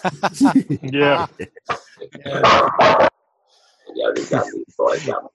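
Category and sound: animal, dog barking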